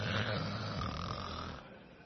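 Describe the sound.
A single loud, rasping snore drawn out for about a second and a half, rough and low with a rattling texture, then trailing off into quieter breathy noise; a man snoring in a church service about three minutes into a sermon.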